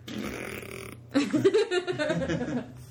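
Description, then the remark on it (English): A raspy, sputtering fart sound effect from a fart machine, loud, buzzing for about two seconds after a brief hiss and a short pause, with no talking over it. “Insert fart noise.”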